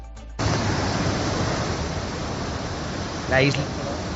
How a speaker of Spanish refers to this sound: Las tardes de este miércoles y la madrugada de este jueves, la borrasca ha cumplido con lo prometido en La Palma. Lluvias, viento, tormenta y los barrancos de las islas corriendo con fuerza.